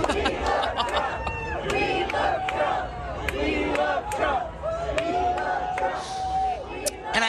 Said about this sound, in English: The one thing that I saw that stuck out to me was as Ron DeSantis was walking through one of the crowds to get to wherever he was going to speak next, this is what the crowd around him was chanting. We love Trump!